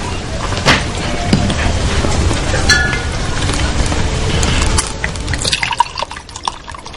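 Wine is poured from a bottle into a glass in a steady, gurgling stream that splashes and trickles for several seconds, then thins into a few soft drips near the end.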